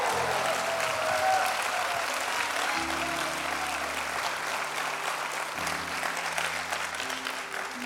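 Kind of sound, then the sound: crowd, audience applauding loudly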